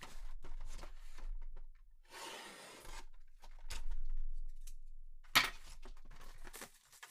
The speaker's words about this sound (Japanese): じゃあちょっと、失礼して、こちら開封させていただきたいなと思います。ちょっとハサミをね、使わないと開かないんでね。